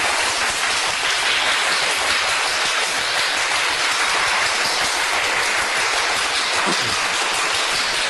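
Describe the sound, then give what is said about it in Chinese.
A crowd applauds steadily for about eight seconds, a dense, even wash of many hands clapping at a constant loudness with no voices over it. “各位要不要掌声鼓励一下？”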